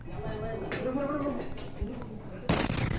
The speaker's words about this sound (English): So, like, bro, roll of quarters, explosives, go over there, blow up that, and then videotape it, show it to the brothers. And he's like, sure, sure, sure. And he is not prepared for the shockwave. Watch what happens.